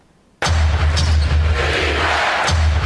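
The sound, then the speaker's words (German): After a moment of silence, a basketball arena crowd of Boston Celtics fans abruptly bursts into loud, sustained roaring and chanting of "defense" over a low steady rumble, with a couple of sharp thuds cutting through. “Das sind die Fans der Boston Celtics, die sind im Schnitt etwas zahlreicher als die des UBSC Graz.”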